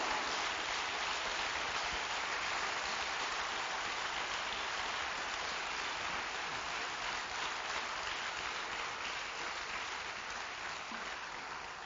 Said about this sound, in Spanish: Dale un aplauso, ¿qué esperas?